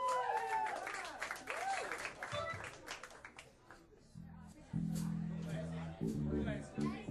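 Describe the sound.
A round of applause, dense clapping mixed with cheering voices, fades after a few seconds as steady musical chords begin and carry on.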